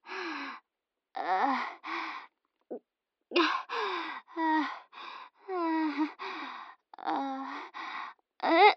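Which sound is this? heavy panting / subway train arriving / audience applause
heavy panting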